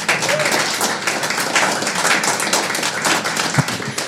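A crowd applauds steadily, many hands clapping in a dense, continuous patter that holds at an even, fairly loud level throughout, with no voices rising above it.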